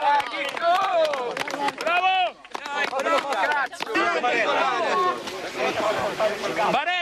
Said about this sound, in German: Der Jubel der Helfer ist riesig, als sie den ersten Überlebenden aus den Trümmern ziehen.